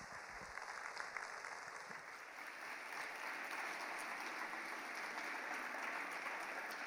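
Audience applause, a steady wash of many hands clapping at an even, sustained level for several seconds, with no voices on top.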